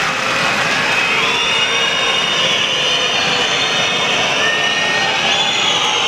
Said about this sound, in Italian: il tentativo di convertire il secondo libero da parte di Gray, gli applausi del pubblico, entra il secondo, 103 pari.